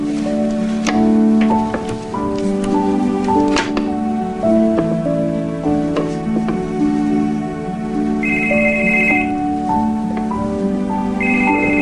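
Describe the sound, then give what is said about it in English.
Over a bed of steady, melodic background music, a man's cell phone starts ringing near the end in a workshop in Maine, its bright electronic tone sounding in short repeated bursts. “He answers his cell phone.”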